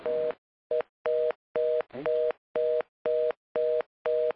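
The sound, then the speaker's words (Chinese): A telephone line tone pulses on and off in a steady, fast rhythm as a phone call is cut off and reconnected, about nine short identical beeps, clear and fairly loud with no voices. “啊，拍摄啊，他拄啊遐电话啥，我切一个无好，就再甲接上去。”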